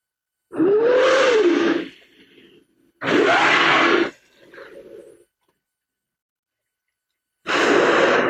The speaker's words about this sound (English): Let me get this one for you, and I think some people will know what this is. The whale part is right. Humpback whales.